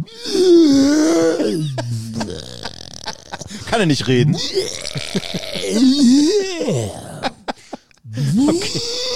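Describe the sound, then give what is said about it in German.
A man's voice imitates a colossus, a huge, clumsy one-eyed giant going about with a hammer, with a string of deep, gravelly grunts and guttural groans, rising and falling in pitch over several seconds, broken by a brief spoken question. “So ein Riese, so ein Einäugiger, so ein plumper das ist ein Koloss.”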